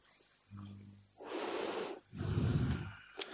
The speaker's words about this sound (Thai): หายใจเข้าหายใจออก